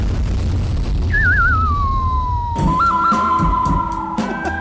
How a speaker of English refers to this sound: what's the best transition sound effect you could possibly have? Explosion.